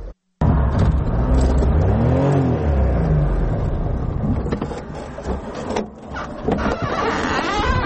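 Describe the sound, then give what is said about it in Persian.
A Daewoo Tico small car's engine hums as it drives on the roads of Tursunzoda, Tajikistan, its pitch rising and falling with gear changes and revving, along with rattling and whirring from the vehicle. “مومن احمدی نیز در راههای تورسون‌زاده تیکه سواری کرد.”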